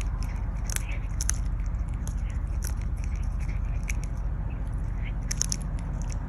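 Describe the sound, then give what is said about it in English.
A cat named Mo Bear chews a silicone straw filled with something, with irregular crunchy, squishy bites and sharp clicks over a steady low rumble, no talking. “Also cat, and they're chewing on something. Yes. It sounds like something with like fiber in it almost.”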